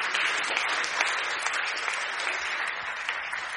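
Steady applause from an audience, many hands clapping densely and continuously at a fairly loud, even level for a few seconds, with no voices standing out.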